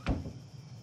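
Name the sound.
door shutting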